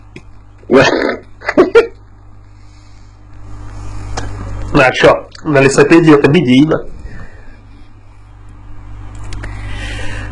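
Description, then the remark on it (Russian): A couple of short sniffling snorts come right into the microphone, followed by a man speaking over a low steady hum. “Так, и хватит шмыга-хрюкать в микрофон, пожалуйста, блядь.”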